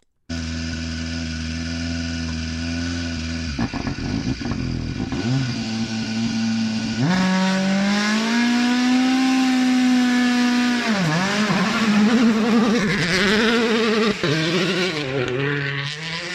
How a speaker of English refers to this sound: After 3 months of silence, the glorious echoes of WRC cars testing in the midsummer forests of Finland, a sound we have all missed. It never gets old, does it?